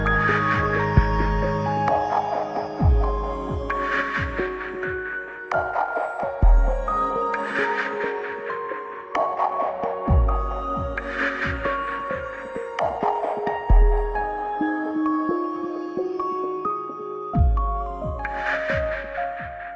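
An instrumental electronic track plays on its own, with deep thumping bass pulses under layered, sustained synth chords that shift every few seconds at a steady, moderate volume.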